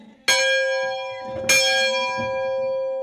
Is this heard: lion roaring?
no